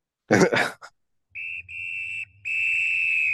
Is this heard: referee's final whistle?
yes